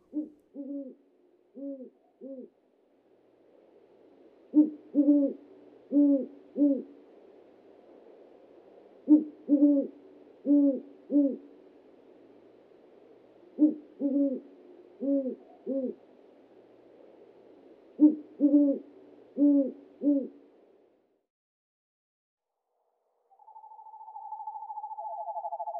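A great horned owl hoots in repeated low, rhythmic phrases of several notes each, clear against a soft background hum, followed by a sustained higher tone at the end.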